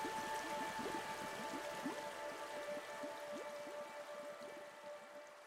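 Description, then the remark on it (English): Water in an aquarium tank burbles and trickles steadily, with quick bubbling splashes over a soft constant hum and a few faint steady tones. No one speaks. “I find it calming to be able to come in here and sit down and look at it. Yeah. And hear the water itself moving.”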